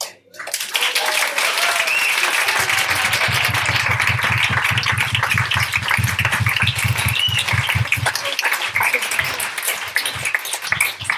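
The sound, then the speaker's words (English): A crowd applauds a panel of speakers with sustained, dense applause, a steady crackle of many hands clapping that holds for about ten seconds, with a low droning hum underneath for part of it. “Can we give a round of applause to all of you?”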